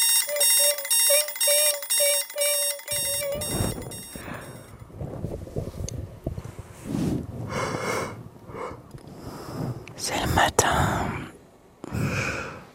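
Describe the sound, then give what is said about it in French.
An electronic alarm clock beeps loudly in a quick, steady run of repeated bursts for a few seconds, then stops, followed by sighs, groggy groans and rustling as someone slowly wakes up in the dark. “Le réveil sonne.”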